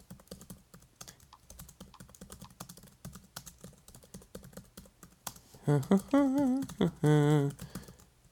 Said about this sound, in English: Okay. Okay. So 1 second. I'm typing.